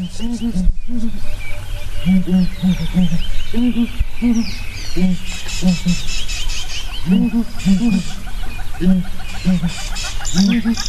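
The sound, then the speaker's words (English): A group of birds calls together in a territorial chorus: repeated low hooting notes overlap in bursts, with higher chirps and twitters over a steady, fairly loud natural background. “Some have a very short call, some really extend the call, and then the frequencies differ between groups.”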